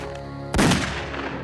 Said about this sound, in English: Abisalov fired a single shot that struck Sydney in the back.